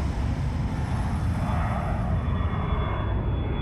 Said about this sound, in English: Victoria Park is right beside the George Best Belfast City Airport, and the airplanes pass directly overhead.